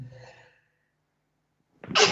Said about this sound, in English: Ah, and he sneezes. Excuse me very much.